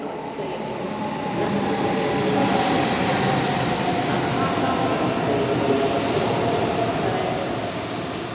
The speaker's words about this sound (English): High-speed trains flow in and out of Frankfurt Airport constantly, taking passengers around Germany and other spots in the European Union.